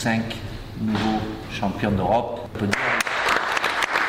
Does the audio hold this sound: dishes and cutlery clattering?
no